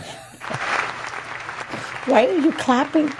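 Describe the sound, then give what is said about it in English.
A short burst of hand clapping, a dense rapid patter lasting about a second and a half, fades out as a person starts talking with a rising, animated voice. “Why are you clapping?”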